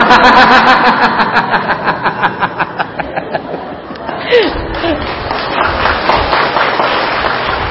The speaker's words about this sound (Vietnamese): Hay, cho chàng pháo tay luôn.